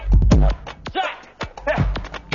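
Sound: dog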